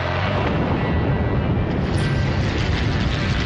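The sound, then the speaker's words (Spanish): A World War II Stuka dive bomber diving almost vertically and its bomb blast merge into a loud, dense, unbroken roar that fills the whole clip, rumbling heavily with no voices. “y los temidos Stukas, ideales para bombardeos en picado de mortífera carga y calculada precisión.”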